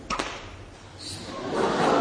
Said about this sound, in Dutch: Hoor je? Ja, dit is een hele grote zweep, hè? Ja, en dan luisteren de dieren wel, hè? Als je dit doet.